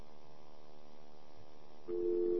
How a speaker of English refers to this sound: Hear the dial tone? Sure you do.